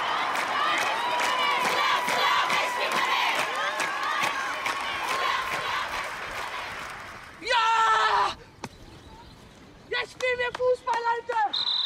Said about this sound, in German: Es war dort das erste Frauenspiel seit der Revolution 1979. Auf den Tribünen sangen 1000 Zuschauerinnen auch gegen die Unterdrückung von Frauen.